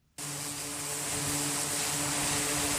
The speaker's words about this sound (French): Au large des côtes yéménites, les aéronefs font leurs allers-retours sur les porte-avions. Des vols d'exercice.